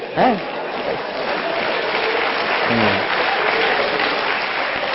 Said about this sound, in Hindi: अभी जो मैं डायलॉग बोलता हूं इंसिडेंट, उसके बाद अब तालियां बजाना